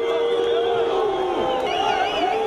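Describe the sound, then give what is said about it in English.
A loud pro-free press protest crowd in front of the Cumhuriyet newspaper in Turkey shouts and yells without pause as riot police use water cannons to break it up, overlapping voices rising and falling in pitch over a steady wash of noise for the whole few seconds. “This sound is from video posted online last fall when riot police used water cannons to break up a pro-free press demonstration in front of the Cumhuriyet newspaper.”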